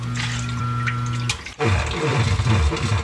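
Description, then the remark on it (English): A steady low mechanical hum cuts off, then water rushes in loudly, a churning, gurgling flood that keeps pouring without letup. It is a basement flooding from heavy rain and rising groundwater, in a radio ad for Tri-City Services sump pumps. No one speaks. “Heavy rain and rising groundwater can turn your basement into a disaster zone overnight.”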